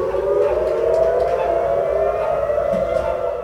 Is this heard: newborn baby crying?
no